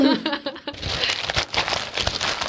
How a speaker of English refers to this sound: I must do extra rustle, my honor. Or more rustle, please. Nah, you rustle the paper yourself. No. I rustle for her. I rustle for her.